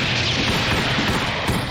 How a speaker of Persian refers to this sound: تمام گلولهاتون رو شلیک کنید.